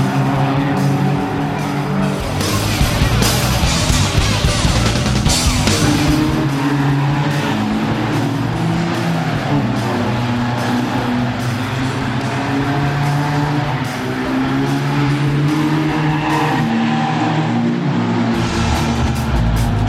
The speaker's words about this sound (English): Cars appear to be out on the track